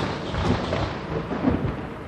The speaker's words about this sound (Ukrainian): Такої блискавки, такого грому вражий ліс не чув і не бачив, здається, ніколи. Блискало і гримотіло так, що навіть водяник Бульк пірнув під воду, не кажучи вже про лісовика і польовика, які відразу поховалися у дуплах дерев.